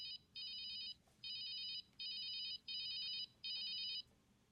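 A mobile phone rings with a bright, warbling electronic tone, repeating in six short bursts with brief gaps, clear over a low background hum.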